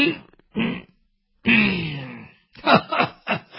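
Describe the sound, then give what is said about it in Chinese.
A male storyteller's voice imitates an old woman coughing, fairly loud: a couple of short hacks, a drawn-out wheezy groan, then a quick run of rasping coughs. “”“哎，我说展昭，看见没有，老太太可是生气了，让你多待两天，你不多待，你看看咳嗽了。”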